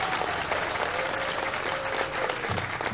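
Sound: crowd applauding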